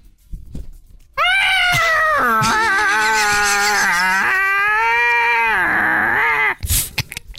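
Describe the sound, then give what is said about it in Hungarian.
A person imitates a cat in heat with one long, loud, wavering yowl lasting about five seconds, its pitch dipping and rising before it cuts off, followed by a brief breathy noise. “Nyávog bele egy ilyen bagzó macska.”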